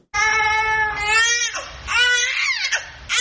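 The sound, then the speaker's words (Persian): A newborn baby born in Afghanistan cries loudly in long, wavering wails, with a brief break and a sharp downward-sliding cry near the end, no talking. “گزارش امید مرزبان در این مورد با صدای یک نوزاد آغاز میشه”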